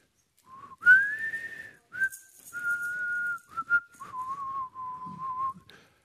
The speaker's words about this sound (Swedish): Och att han var på gott humör, det visste man. För då visslade han.